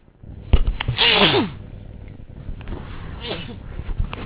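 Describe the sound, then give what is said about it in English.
A loud sneeze bursts out with a sharp breathy 'choo', followed a couple of seconds later by a softer second sneeze or sniffling exhale. “I'm about to sneeze. It's going to be bad.”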